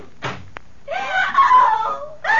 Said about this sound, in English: What was that scream I just heard? It's your patient, Dr. Manette. We'll take you right upstairs to her now.